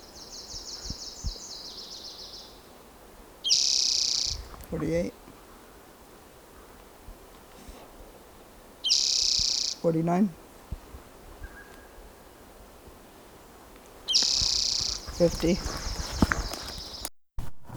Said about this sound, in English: Previous bird was not collected, and it may be the same bird that I recorded on May 4th, 2018. It's in the same general territory.